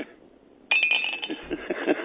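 After a brief quiet moment, a Morgan silver dollar drops into a Rush Limbaugh coffee cup with a sudden sharp clink, followed by a bright, high ringing tone that lingers and rattles for over a second.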